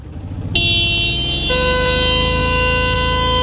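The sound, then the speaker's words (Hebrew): A car horn blares in one long, loud, sustained blast, starting after a short moment of background rumble and thickening partway through, held until the end. “אני יכול לצפור יותר חזק.”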